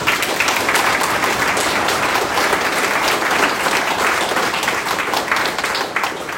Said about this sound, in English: Tonight is an example of two families and their sons that saw it through. So I think we need to give them a round of applause for that.